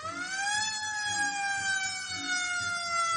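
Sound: ambulance siren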